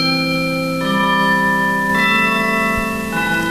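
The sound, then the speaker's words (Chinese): Christmas bells ring out in loud, sustained tones, with a fresh chord of strikes roughly every second that blends into the lingering hum of the previous ones. No voices are heard. “啊，是圣诞钟声，快来，我们来欢迎主耶稣。”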